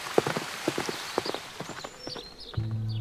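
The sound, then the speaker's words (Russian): The hooves of a plump bay mare clip-clop in an uneven walking rhythm as she is urged on with the reins, a string of sharp knocks, with a low steady hum rising near the end. “«Государя, встречать еду», — буркнул тот, сжимая вожжи и подстегивая ими лошадку.”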